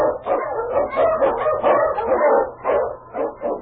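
husky sled dog barking

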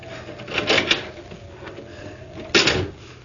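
door opening

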